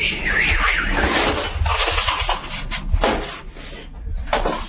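A door opens and closes with a few wooden clunks and thuds as someone arrives at it, amid busy, noisy surroundings with faint voices in the background.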